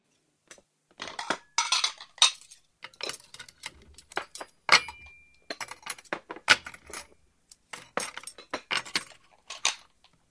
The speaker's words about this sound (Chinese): 哎，爸，你放着，我来收拾碗筷。